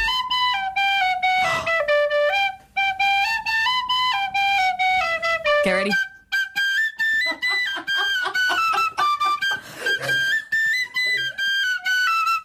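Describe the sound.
A lively dance tune played on a tin whistle, bright, with quick ornamented notes in a steady jig-like rhythm; a voice briefly speaks near the start.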